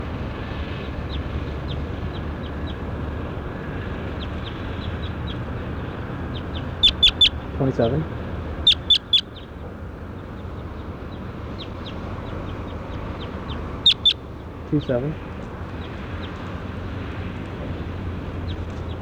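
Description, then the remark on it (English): A bird, logged as bird 27 while being recorded, calls in three short bursts, each a quick cluster of sharp, raspy notes, rising out of a steady hiss of background noise. Nobody speaks. “That was bird 27 right there.”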